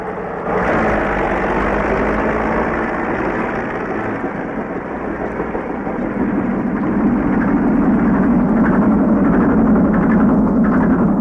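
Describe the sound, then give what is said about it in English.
A heavy earthmoving machine's engine idles with a loud, steady diesel rumble, growing slightly rougher and louder toward the end, with no voices. “Get into the machine, dig it, dig like blazing, get into the job and go like hell and get the job done, you know.”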